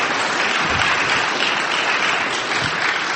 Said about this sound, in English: And I got to tell you, this man deserves a round of applause for doing that.